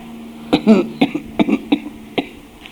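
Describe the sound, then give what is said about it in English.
A weak cough repeated several times in short, uneven bursts from a person who was hurt and cannot cough properly, some clustered together like strained attempts to clear the chest, with brief pauses between them and no talking. “I can't cough properly because my... where I was hurt in 8 months.”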